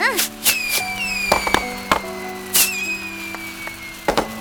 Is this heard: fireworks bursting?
yes